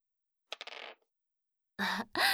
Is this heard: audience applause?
no